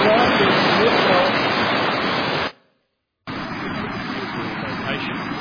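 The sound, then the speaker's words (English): Steady, loud rush of flowing stream water at Dan in Israel, continuous, with a brief moment of silence partway through before the gushing resumes. “Beautiful flowing water there.”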